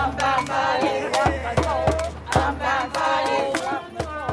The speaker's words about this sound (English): They cheer for the Unbound Bodies Collective.